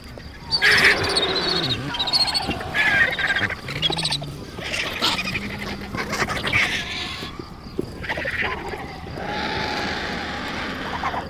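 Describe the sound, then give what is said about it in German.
Harsh, raspy screeching and squawking from a crowd of vultures feeding on a carcass and fighting over places, intensifying as two cinereous vultures arrive; overlapping calls with hoarse bursts and rough hisses, loud and continuous throughout with no pauses. “Das ohrenbetäubende Gekreische steigert sich noch mit der Ankunft von zwei Mönchsgeiern.”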